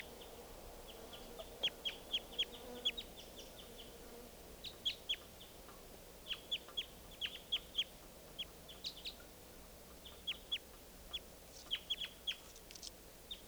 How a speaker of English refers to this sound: Wild bird.